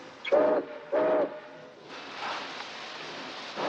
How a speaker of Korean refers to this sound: 셰크의 화물열차 19호는 포틀란드를 향해 다시 출발하고 넘버원은 자신이 다시 이 열차에 탄다고 예고합니다.